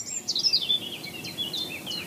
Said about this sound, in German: Jetzt haben wir übrigens ganz nah, singt hier das Rotkehlchen. Das hat eben so ein bisschen perlenden Gesang. Das da? Genau. Oh, toll. Also so leicht melancholisch perlend.